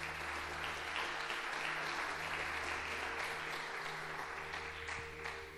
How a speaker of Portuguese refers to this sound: Amém? Aplauda o Senhor então, porque Ele é bom.